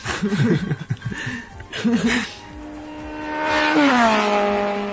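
A racing engine whines at a high, steady pitch, swelling louder before its tone drops sharply as it passes by. Laughter and chatter come first, then fade as the engine takes over.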